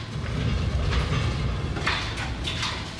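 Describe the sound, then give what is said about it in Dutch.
Demolition work rumbles on as a steady, heavy low drone that booms through a house, with a few brief grinding, crunching bursts rising above it toward the end. No one speaks. “Want we zijn al een tijdje aan het slopen hier, hè?”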